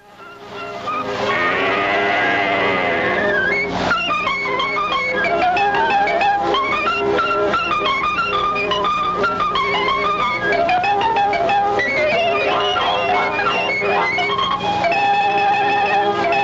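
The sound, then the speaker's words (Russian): Piglets squeal in a rapid string of shrill, wavering cries, one after another, as Mickey Mouse pulls their tails in turn in a cartoon film, with a cat's yowling whine mixed in, loud against a busy, tuneful background of Mickey playing "Turkey in the Straw". “Ему подвывает кот и подвизгивают поросята, которых он по очереди дергает за хвосты.”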